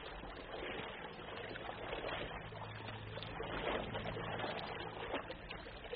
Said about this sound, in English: Of your feet sloshing through streams and rice paddies.